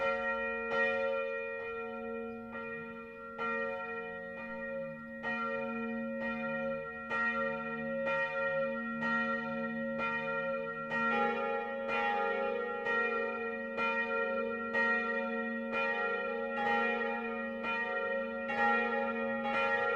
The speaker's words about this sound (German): Es ist 12 Uhr. Das Mittagsläuten kommt heute von der evangelisch-lutherischen Pfarrkirche St. Bartholomäus im mittelfränkischen Kirchensittenbach.